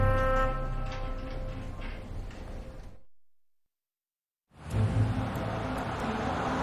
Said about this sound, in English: Car drives down street at night.